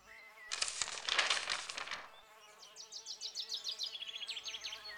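A steady, droning buzz of many bees around beehives in a rooftop garden hums throughout, swelling into a dense, louder rush early on, then settling while quick, repeated high chirps pulse rhythmically over the hum.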